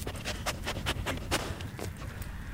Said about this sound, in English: That sniffing you hear is Tilia, the conservation dog at Mequon Nature Preserve. Right now, she's looking for a treat.